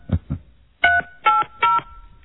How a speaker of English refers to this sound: Try star 67ing it before you dial.